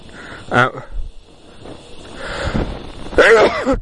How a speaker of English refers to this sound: I'm just going to really sneeze.